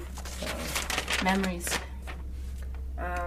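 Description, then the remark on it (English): Crinkling and rustling of a folded sheet of paper being opened, a quick run of crisp crackles that fades after a second or two, with brief voice sounds mixed in. “There's also another folded paper which I haven't opened yet.”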